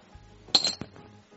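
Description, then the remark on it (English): Dice are rolled to decide who goes first, clattering briefly across a hard surface, a quick cluster of bright clicks and rattles followed by one last tap, fairly loud, with no voices. “Best 2 out of 3 on the dice roll.”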